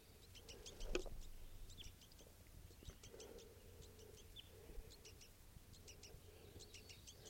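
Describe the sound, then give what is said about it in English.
Two juvenile birds with a lone adult male give high, thin begging calls in quick repeated clusters of short notes, continuing steadily throughout over a low background rumble, with one brief sharp knock early on. “And there's a lone male here with two begging baby juveniles with him.”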